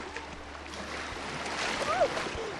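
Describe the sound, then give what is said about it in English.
Steady sloshing and splashing of cold water as people wade into it, a continuous wash with a slightly louder surge near the end and faint voices in the background. “We're basically going into the water right now, and when it gets high enough, I'm going to basically jump in.”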